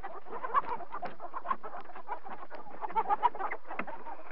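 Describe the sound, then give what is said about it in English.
A group of chickens huddled together cluck softly and continuously, a low, busy murmur of overlapping clucks with a few slightly sharper notes poking out, with no talking. “For a while, only a low clucking could be heard.”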